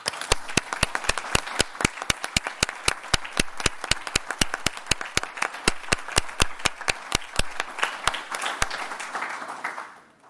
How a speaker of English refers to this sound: Au nom de notre conseil, je te dis merci et je te propose que nous t'applaudissions.